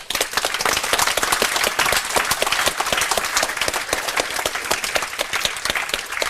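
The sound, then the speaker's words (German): Sustained audience applause for the company Snock, with dense, rapid clapping that stays loud and steady for several seconds, a bright crackling texture of many hands at once, with no talking over it. “Dann fetten Applaus für Snock.”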